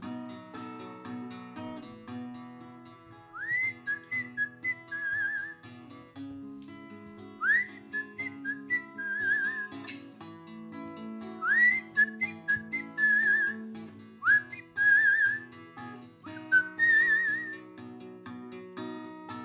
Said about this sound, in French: est-ce que tu m'entendais siffler tout seul?